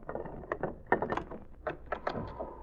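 household object, cabin door being opened

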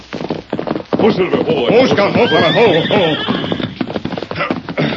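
animal, horse neighing

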